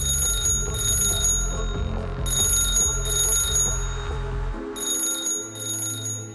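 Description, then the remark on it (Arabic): A telephone rings over and over in shrill, metallic bursts, each ring lasting about half a second in pairs, over a low rumbling drone with no talking. “ومن صريخ الأولاد العالي فجأة يرن التليفون ويضلوا يرن، ويتوتر المجرم ويهرب بأسرع وقت.”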